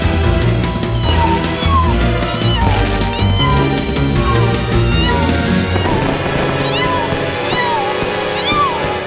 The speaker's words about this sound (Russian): Эй, ну ты что, не видел салюта? Да не пугают они абсолютно. Что, это первый твой Новый год? Выходит, ты очень маленький кот.